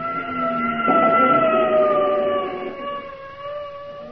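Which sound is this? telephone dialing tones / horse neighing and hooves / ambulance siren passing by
ambulance siren passing by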